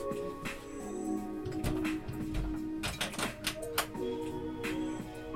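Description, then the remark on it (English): A series of sharp mechanical clicks and rattles as someone locks a door, uneven in rhythm, with a soft continuous hum in the background. “Let me lock the door real quick.”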